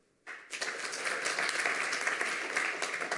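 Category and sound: crowd, audience clapping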